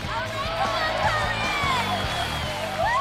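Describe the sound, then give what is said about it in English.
A dense crowd at a gravel dirt bike race cheers and shouts for the racers, with many overlapping voices rising in whoops and calls. Steady, loud noise runs throughout, over a low, shifting rumble. “On another day, a crowd has once again gathered to cheer on their favorite racers in a gravel dirt bike race.”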